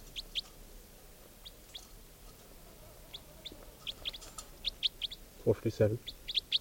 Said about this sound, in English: Recording again, bird 457.